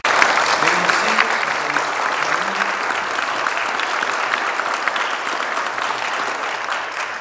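Sustained applause from a large audience for veterans and those actively serving, steady and fairly loud throughout, with dense overlapping clapping and a few faint voices murmuring underneath.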